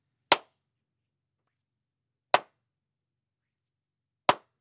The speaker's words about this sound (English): And now here are some claps.